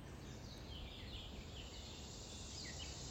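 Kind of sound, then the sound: bird, birds singing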